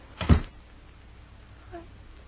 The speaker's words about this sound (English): Close that door,